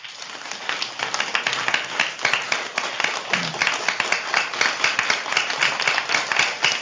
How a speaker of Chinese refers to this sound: 谢谢你，哎，这个掌声像就像最近的暴雨一样的，那个。